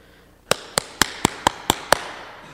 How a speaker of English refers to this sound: Suddenly there's a knock at the door. Bang, bang, bang, bang.